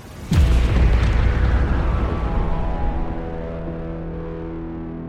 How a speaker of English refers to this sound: The next laser beam cut deep into my structure and destroyed one of my auxiliary thrusters. The resulting explosion shocked my entire body.